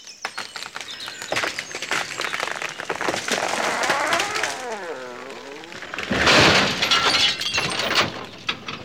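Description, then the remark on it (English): A tree creaks and splinters through a run of sharp cracks, then comes down with a loud crash onto a car, glass shattering, followed by scattered clattering debris. “It's just fallen on your car.”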